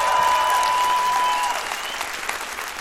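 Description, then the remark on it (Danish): Steady applause from a live audience for a guest, a dense patter of many hands clapping that holds strong, then eases slightly toward the end, with no voices over it. “det har altså ikke en candle til det der bifald”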